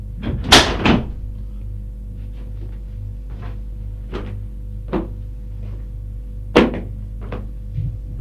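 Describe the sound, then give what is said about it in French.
A woman shuts a high window with a loud wooden clatter and thump, then a few lighter knocks and rattles follow at scattered intervals over a steady low hum, with no voices. “Elle referme la fenêtre.”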